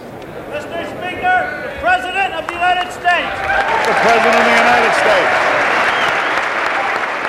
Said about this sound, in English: The president was all smiles as he stepped onto the House floor, greeted by a standing ovation and loud applause.